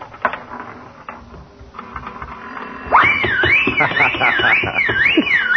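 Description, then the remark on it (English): A nickel slot machine ratchets and clicks as its reels spin, then hits the jackpot with a loud, looping warbling alarm over a busy clatter of coins that keeps going to the end. “Well, it's the first time I ever hit the jackpot.”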